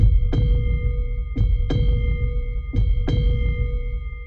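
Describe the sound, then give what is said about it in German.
A deep heartbeat sound effect in an advertisement for Kumbach Mineralwasser, presented as the heartbeat of the Allgäu, thumps in slow double beats, about three lub-dub pulses, over a steady low rumble and faint sustained hum, loud with no voices. “Kumbach Mineralwasser präsentiert den Herzschlag des Allgäus.”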